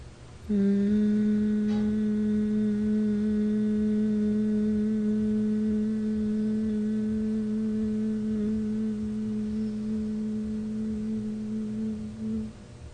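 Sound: sustained vocal humming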